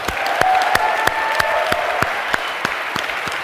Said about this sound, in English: Cato in particular, I fear we have done a disservice to his free time and sleep throughout the semester, but if we could, a huge round of applause for Cato.